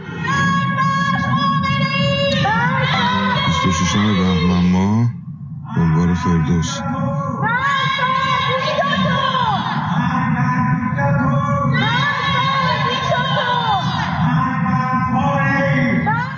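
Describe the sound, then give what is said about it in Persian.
Many voices shout slogans against the leader of the Islamic Republic at night from house windows and rooftops, together in a loud, continuous chant, with rising and falling yells repeating in waves, broken by one brief pause near the middle. “پس از سرکوب‌های شدید در این دو روز اعتراضات فروکش کرد، اما در روزهای اخیر شهروندان شب‌ها از پنجره خانه‌ها و پشت بام‌ها علیه رهبر جمهوری اسلامی شعار سر دادند.”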